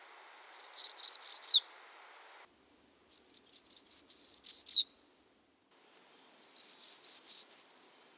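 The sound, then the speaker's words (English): A warbler sings from high in the canopy of an Olympic conifer forest: three separate phrases of high, slightly nasal whistled notes, each a quick run that ends in a sharp flourish, with short silent gaps between. It sounds clear, with no talking. “These lovely high nasally whistles coming from way up in the canopy.”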